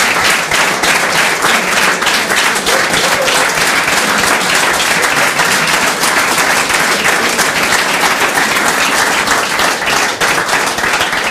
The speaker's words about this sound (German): Also vielen Dank für diesen warmen Applaus, für den warmen Empfang hier im Schillergarten.